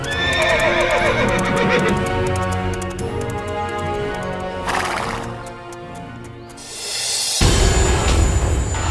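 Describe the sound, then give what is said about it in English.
Two men ride their horses onto a lawn: the horses whinny and snort loudly while hooves clip-clop in a steady rhythm underneath, with a couple of sharp bursts of noise breaking in near the end. “The two men rode their horses to the lawn.”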